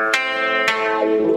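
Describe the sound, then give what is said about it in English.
An electric guitar rings out with two sharp strums over a sustained, heavily processed tone that bends and slides near the end, loud, with no voices. “Just the way he plays the guitar and all the stuff about the cop show is brilliant.”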